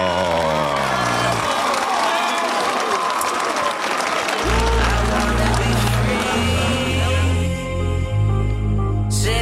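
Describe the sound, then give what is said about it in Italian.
Sustained applause from a crowd for the managers, dense and steady for the whole stretch, with a few cheers mixed in and a low musical bed entering about halfway through. “Chiedo a voi fuori e anche in regia l'applauso per i dirigenti, tutti al 93-94% del loro rendimento.”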